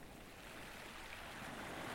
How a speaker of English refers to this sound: The waves you can hear were recorded early in the morning of Thursday the 3rd of December 2020 at Deal. It was just after low tide, when the sea was calm and the air was still, just before the rain and wind showed up, throwing their weight around.